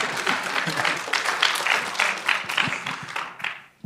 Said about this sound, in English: Nah, I mean, that's worth an applause. I mean, give it up.